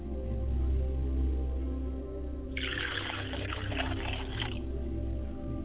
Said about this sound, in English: I pour libation to the ground.